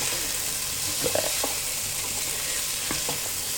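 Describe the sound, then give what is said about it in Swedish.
A tablespoon of paprika sizzles in a frying pan with a steady crackling hiss, broken by a few soft scrapes and taps of stirring. No one speaks. “En matsked paprika. Kulorna kommer ju bättre fram när det får fröst med.”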